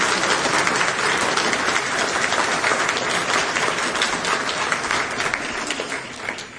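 Sustained applause from a congress audience for Professor Krystyna Pawłowicz in her absence, a dense, steady wash of many hands clapping at an even loudness for several seconds before it begins to thin out at the end.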